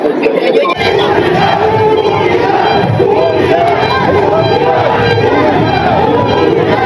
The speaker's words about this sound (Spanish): Tras su arribo al hotel, sede del Consejo Nacional de Morena, Sheinbaum escuchó gritos de unidad que enseguida se transformaron en reclamos de piso parejo por parte de simpatizantes de Ebrard.